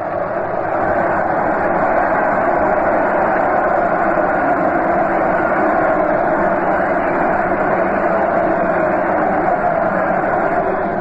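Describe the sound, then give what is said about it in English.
A World Series baseball stadium crowd cheers as the Yankees go onto the field, a steady, sustained roar, a dense wash of many voices that holds at an even, loud level without breaks or distinct shouts. “There the Yankees go onto the field. Listen to that cheer.”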